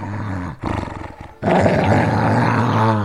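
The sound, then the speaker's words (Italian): A dog growls low and rough, starting in short broken bursts and then swelling into a loud, continuous snarl that lasts until the end, as it confronts workers arriving at a farm. “Quando gli addetti all'orfanotrofio arrivano alla fattoria, vengono affrontati dal cane.”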